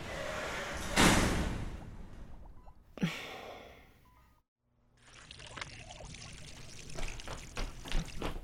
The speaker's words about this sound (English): I was just watering the rhododendrons. You know you have to water plants, right?